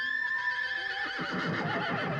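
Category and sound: animal, horse neighing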